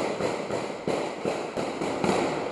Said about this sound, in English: And these guys are shooting off live celebratory gunfire right next to these crates that clearly say explosive on them.